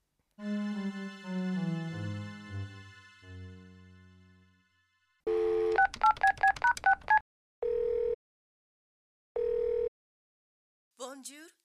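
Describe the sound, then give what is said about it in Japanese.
A rapid run of about eight touch-tone beeps as a phone number is dialed to answer a newspaper advertisement, calling the agency International Service, followed by two separate ringing tones on the line, with a brief voice at the very end. “新聞広告を見て電話したんですけど。”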